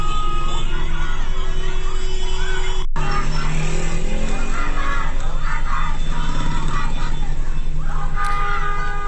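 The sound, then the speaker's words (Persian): A crowd of school students shouts and chants slogans together in the morning outside the school grounds, addressing cars honking in the street, loud and continuous over street noise, with a brief break partway through and traffic sounds mixed in. “امروز صبح هم عده‌ای از دانش آموزان یکی از مدارس بیرون از محوطه مدارس خطاب به ماشین‌هایی که بوق می‌زدند در خیابان، که این هم به امری عادی در روزهای گذشته تبدیل شده، می‌گفتند، شعار می‌دادند که بوق نزن، فریاد بزن.”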